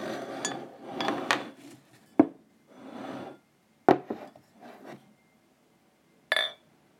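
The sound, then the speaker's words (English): A wooden chair scrapes and creaks as it is shifted about and sat on, with several rubbing drags and three sharp wooden knocks, moderately loud, without any talking. “All right, let's see if this chair is better.”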